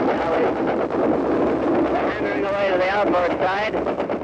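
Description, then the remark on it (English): A newly discovered audio recording: a loud, continuous din of aircraft roaring overhead and heavy anti-aircraft fire rumbling without pause, with people shouting and a correspondent narrating, his voice drowned out in parts by the gunfire. “You hear people yelling, and you hear these planes going over, this incredible din of any aircraft fire.”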